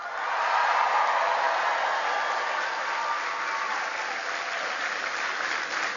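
A crowd applauds steadily for several seconds, a dense wash of clapping that stays loud and even throughout, with no voices breaking through.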